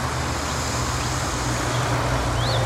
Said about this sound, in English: Just totally, totally relax as you cast your awareness out for the sound of the traffic.